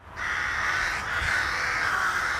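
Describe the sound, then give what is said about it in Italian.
Crows cawing loudly and continuously, several harsh overlapping calls forming a dense, raucous chorus that holds steady throughout, with no speech. “Le si sentono un po' ovunque e la loro presenza accompagna i cittadini in varie forme, con il loro gracchiare di prima mattina o di sera, con qualche simpatica visita sui balconi, ma anche con molti escrementi su biciclette e panchine.”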